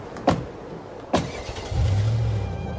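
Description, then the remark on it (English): Two sharp thumps like car doors shutting, then an engine starts up and holds a low, steady hum as the car begins to move off, in cold weather. No one speaks. “Hey, honey, get in the car.”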